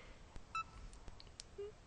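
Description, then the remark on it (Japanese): A couple of short, quiet electronic beeps from a VoiceSense device during a firmware upgrade after a system restart, a brief two-tone chirp followed later by a lower single tone, with faint clicks and background noise in between and no talking. “ビープ音が鳴り始めました。”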